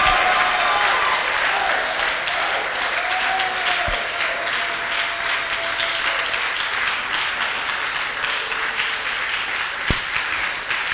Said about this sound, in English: Can you clap in your strength and shout in your strength to the Most High God?